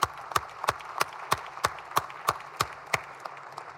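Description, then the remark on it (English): A brief round of applause in a legislative body welcoming special guests from the Cape Girardeau region: about ten sharp, evenly spaced claps in a steady rhythm, moderately loud, with no talking over them. “Please provide them a round of applause.”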